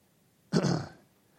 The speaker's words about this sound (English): I completely apologize. This is terribly rude of me to take care of my personal hygiene in the pulpit, but I got to figure the people on Facebook hear me cough one more time to that microphone.